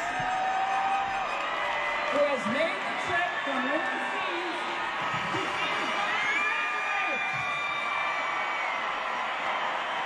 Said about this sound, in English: Cool. Listen to that crowd. Yeah, that's cool.